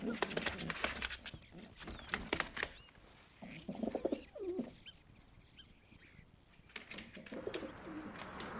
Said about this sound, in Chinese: 莱莱喜欢和别人分享， 他把一些饼干渣分给一群鸽子们吃。